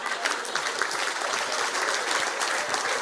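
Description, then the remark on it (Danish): Steady audience applause fills the whole stretch, a dense rattle of many hands clapping at an even, sustained loudness with no pauses and no voices on top. “Fanden klapper I for?”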